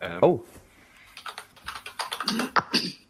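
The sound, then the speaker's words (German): Rapid clacking of keys as a man hammers on a computer keyboard, a dense irregular flurry of taps after a brief vocal sound at the start. “Jetzt wird getippt.”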